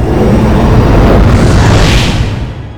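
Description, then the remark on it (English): A loud explosion roars with deep, heavy rumble and crackling debris, sustaining for a couple of seconds before beginning to fade. No voices are heard. “I had been hit by that last explosion.”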